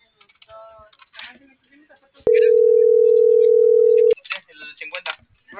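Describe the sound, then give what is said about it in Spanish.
A WhatsApp call ringing tone: a single steady, loud electronic tone holds for about two seconds, with people talking just before and after it. “Voy con el otro de WhatsApp.”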